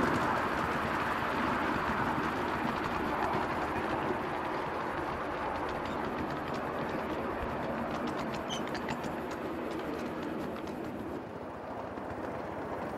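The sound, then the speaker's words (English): A one-eighth full size miniature steam locomotive runs with a steady, loud rumble and hiss, rhythmic clicks and chuffs showing through midway before it eases off slightly toward the end as the brakes are touched. “Touch on the brakes.”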